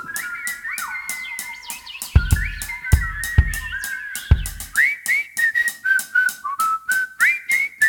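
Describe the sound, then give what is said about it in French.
A person whistles with pursed lips and rolling tongue in quick, warbling bird-like chirps and trills, clear, while a rapid series of sharp clicks or taps repeats underneath, with several heavier thumps in the middle. “On souffle comme dans un roseau et on gazouille comme des oiseaux.”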